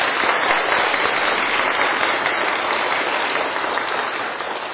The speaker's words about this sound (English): But I think, parents, we could give them a wee round of applause, just encourage them.